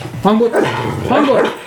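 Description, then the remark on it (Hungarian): A dog barks on command, giving two short, tonal barks or yips one after the other with a brief pause, clear and fairly loud against faint background noise. “Hangot!”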